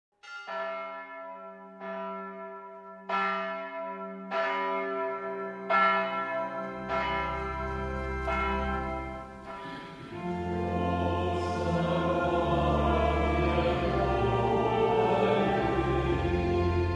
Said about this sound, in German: Kirchenglocken und Gemeindegesang, das ist der Klang vom Sonntag.